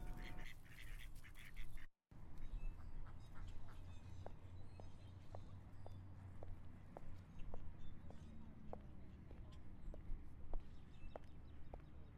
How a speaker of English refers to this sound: There are the ducks. Some of them are waddling near me.